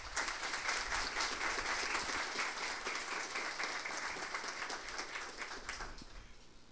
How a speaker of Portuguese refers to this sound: aos quais pedimos uma salva de palmas.